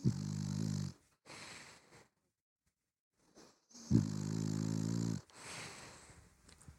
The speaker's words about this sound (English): You'll want to end with some snoring.